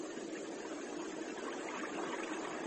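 flowing stream water

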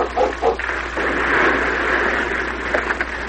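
sled dogs barking

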